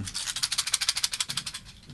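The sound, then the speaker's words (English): A rapid, steady hissing rattle made by a voice in imitation of a rattlesnake, with quick bright pulses about a dozen per second that soften toward the end, and no speech. “You had it as a rattlesnake at the beginning.”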